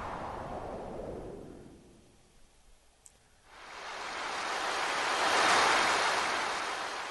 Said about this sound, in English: The ocean. Something like that.